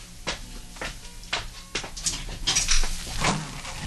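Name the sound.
front door being opened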